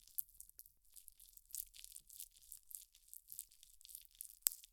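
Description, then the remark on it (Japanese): Soft, wet squelching with quick, irregular sticky crackles repeating throughout and one sharper click near the end, described in an erotic role-play as saliva-covered fingers teasing the entrance of an anus. No voices, just the moist, crinkly texture. “いやらしい水音。”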